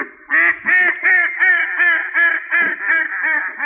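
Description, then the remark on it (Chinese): Frightened ducks quack and geese honk on a farm while a fox is being chased, a loud, rapid run of about nine nasal calls, one after another with barely a pause, and no voices. “鸭同埋鹅都受惊，”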